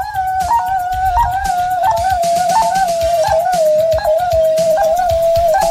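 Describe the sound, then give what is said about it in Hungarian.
A smartwatch ECG app taking a measurement, started with a finger on the crown: a steady, whistle-like electronic tone holds a fairly high pitch with slight wavering and small periodic blips, over soft, rhythmic low thumps throughout, with no talking. “Rátesszük az ujjunkat a koronára, és azonnal indítja is. Egy fura hangot fogtok hallani.”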